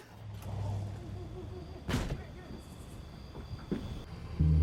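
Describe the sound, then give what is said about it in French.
A gang's van engine rumbles low as it arrives just behind a police officer's car, idling and revving unevenly, with a couple of sharp, loud bursts cutting through the steady drone before it swells at the end. “Tout à coup, l'agent Miller vit la camionnette du gang arriver juste derrière sa voiture.”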